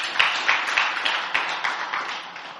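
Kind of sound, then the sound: crowd, audience clapping hands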